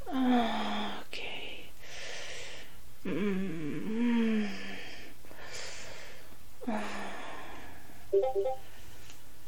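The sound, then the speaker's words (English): A brief electronic notification chime from a new computer sounds once near the end, following a run of loud, breathy gasps and moaning vocal sounds. “I have this new computer. I don't know how to turn off my notifications.”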